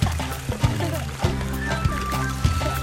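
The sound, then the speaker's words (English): Water splashes and rushes steadily as Mowgli washes off beneath a waterfall with colorful birds nearby, a continuous wash of noise with regular low thumps and a tonal musical bed running underneath throughout. “He washes off in a waterfall while colorful birds sit nearby.”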